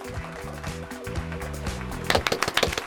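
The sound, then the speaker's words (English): Music plays with steady tones, then near the end a quick flurry of sharp hand claps by the hosts breaks in, several crisp loud smacks in rapid, slightly uneven succession over the music. “That's a big clap.”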